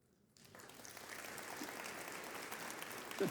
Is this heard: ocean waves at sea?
no